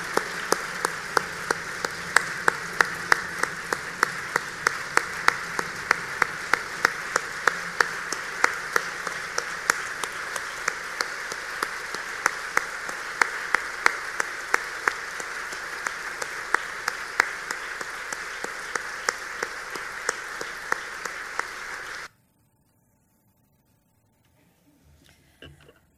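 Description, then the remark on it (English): An audience applauds steadily for about twenty seconds, a dense patter of many hands clapping, then it stops abruptly into near silence. “Put the round of applause going for Stuart Kelly”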